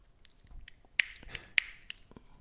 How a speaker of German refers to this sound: Percussion. Kastagnetten waren das.